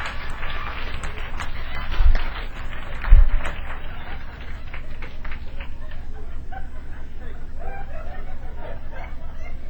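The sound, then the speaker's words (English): A voice imitates a mother hen's alarm call at a chicken hawk, a burst of agitated clucking and squawks with a couple of sharp accented peaks, fairly loud, over a busy background. “Now Mama has done sounded the alarm.”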